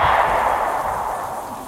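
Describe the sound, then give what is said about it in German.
A single loud gunshot rings out in the rain, its booming report trailing into a long, echoing decay that slowly fades away. No voices accompany it. “Dann plötzlich ein Schuss.”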